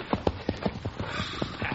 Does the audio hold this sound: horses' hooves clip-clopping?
yes